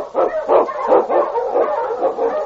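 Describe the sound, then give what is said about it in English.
Several sled dogs, huskies, bark and yip together in an excited, overlapping chorus, loud, with no pause across the short stretch and no talking. “The Wonder Dog King, swiftest and strongest of Eskimo dogs, blazes the trail through storm and snow for Sergeant Preston as he meets the Challenge of the Yukon.”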